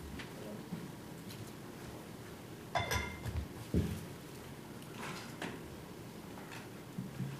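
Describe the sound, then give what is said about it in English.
Glass pieces clink and knock as someone touches and handles them during an appeal hearing: a few irregular chinks and taps, one sharper clatter near the middle, over a low, steady murmur. “Were these glass pieces shown at the hearing? This one was, and this is showing the former set. But this was the one that you're now touching, was that shown at the hearing?”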